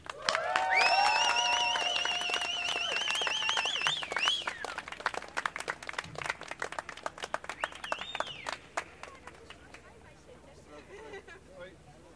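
A crowd at a Palestine movement gathering in Amsterdam, the Netherlands, breaks into sustained applause and cheering for a speaker, with loud whoops and whistles in the first few seconds, then steady clapping that gradually thins out and fades.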